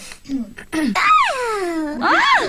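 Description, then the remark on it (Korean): Someone imitates a newborn baby as a party-trick impression: a few short whimpering sounds, then a long, high wail that swoops up and slowly falls, followed by another rising and falling cry. “아 저는 그 깐난아기. 네, 깐난아기.”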